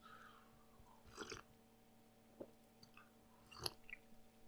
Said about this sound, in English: So give me a second. I want a little sip of coffee here.